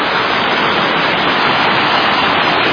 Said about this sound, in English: The creek has run really hard this year.